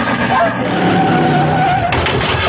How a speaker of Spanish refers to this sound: Sin dirección ya, abandonado a la furiosa inercia que lo lleva hacia adelante, el auto tuerce brusco y se precipita a un hondo barranco.